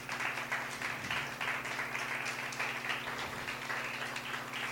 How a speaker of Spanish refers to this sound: Dale un aplauso al Señor ahí.